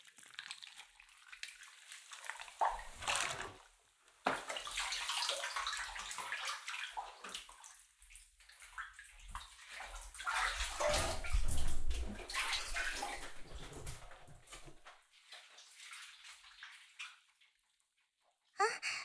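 Water sloshes and splashes in a bathtub as someone climbs out of a bubble bath, with irregular surges of movement and dripping, moderately loud, ending abruptly.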